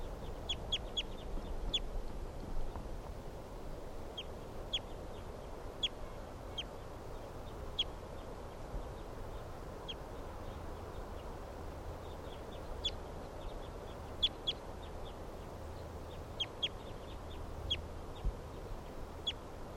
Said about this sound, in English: Mother birds in the background here.